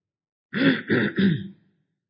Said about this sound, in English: Forgive me. I'll clear my throat from time to time.